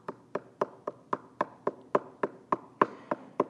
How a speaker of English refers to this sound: He's knocking.